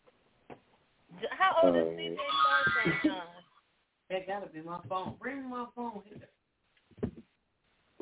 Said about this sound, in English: That gotta be my phone. Bring my phone here.